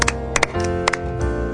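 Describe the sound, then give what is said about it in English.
Several sharp hand claps, made as music, mostly in quick pairs, ring out crisp over a steady musical backdrop with sustained tones. “Music can be made by clapping your hands.”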